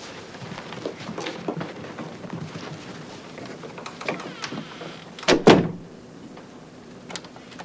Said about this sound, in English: Dad, could you shut the door? Sure.